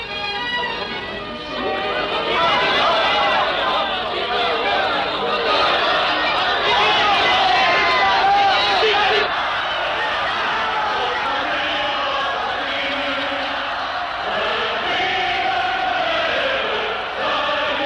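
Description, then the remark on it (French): A large standing crowd in a hall cheers and shouts in a long, sustained ovation for Mathias Sandorf, many voices blending into a loud, continuous roar that swells early and holds steady throughout, as students sing the revolutionary hymn. “Mathias Sandorf s'est avancé jusqu'au bord de la loge de Frédéric et, reconnu par la foule, est l'objet d'une longue ovation.”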